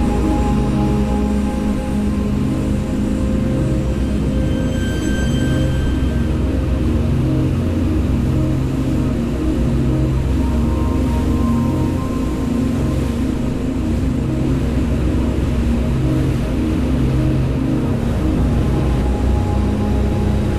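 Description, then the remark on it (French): A water bus's engine drones steadily throughout, a loud, continuous low rumble with a throbbing hum and faint water wash, heard on board as it travels from central Rotterdam to the Maasvlakte 2 port extension, with no talking. “J'ai pris place à bord d'un bateau-bus depuis le centre-ville de Rotterdam pour me rendre sur la nouvelle extension du port qui a été inaugurée en 2013, le Maasvlakte 2.”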